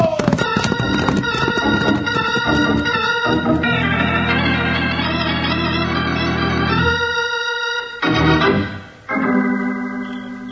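Horses, among them Buckshot and Joker, gallop with rapid, pounding hoofbeats in a steady driving rhythm as riders ride hard back toward the town of Angel's Fork. The hoofbeats are soon joined and then overtaken by loud, sustained orchestral music that swells and cuts off abruptly.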